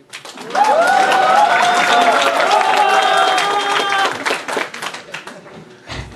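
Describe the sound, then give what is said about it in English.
An audience bursts into loud, dense applause to vote for a contest winner, with whoops and cheering voices riding over the clapping for several seconds, then the clapping thins out and fades near the end. “I shall listen to the sounds of applause.”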